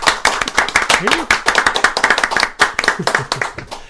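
A small group of hosts and in-studio guests claps steadily for a few seconds in a studio, crisp overlapping hand claps in a fast irregular rhythm, fairly loud, with a faint voice murmuring briefly underneath.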